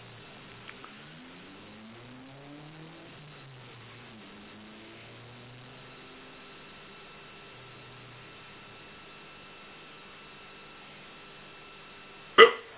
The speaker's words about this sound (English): Sorry. Just have the hiccup.